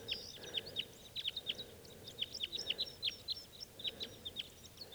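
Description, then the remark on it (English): A flock of about six type two crossbills, just flown in, calls in quick, overlapping bursts of sharp, high chip notes, several birds at once, over a low steady background rumble with no talking. “Big flock of crossbills just flew in here.”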